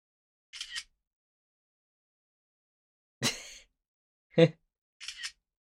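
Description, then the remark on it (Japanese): Crisp camera shutter clicks as photos are taken of someone sleeping, several brief snaps spaced a second or more apart with silence between, fairly quiet, with no talking. “待って、シャッター音で起きないかな。”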